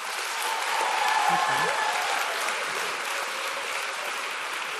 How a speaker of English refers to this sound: Now that you know that I'm excited, I want to hear from the folks who were here over the summer. Can I hear a round of applause from the summer folks?